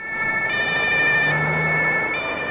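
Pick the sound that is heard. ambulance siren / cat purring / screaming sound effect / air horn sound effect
ambulance siren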